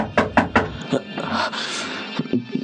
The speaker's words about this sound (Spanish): ¿Qué sucede? Vamos, vamos. Dígale algo o terminará por echar abajo la puerta.